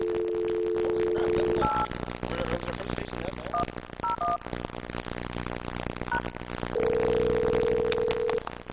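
A steady telephone dial tone hums, then several brief touch-tone beeps are keyed at an uneven pace, dialing the number 8110, before another long tone sounds, all over a busy, noisy background.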